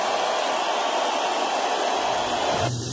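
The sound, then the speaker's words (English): A big crowd at a Trump rally roars and cheers in one continuous, loud wash of noise that holds steady for about three seconds, its tone changing slightly just before the end. “Listen to the roar of the crowd at the Trump rally.”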